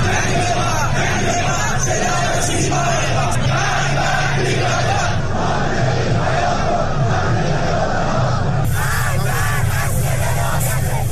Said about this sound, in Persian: ادامه تظاهرات اعتراضی ایران به دنبال فاجعه مرگبار ریزش برج متروپول در آبادان.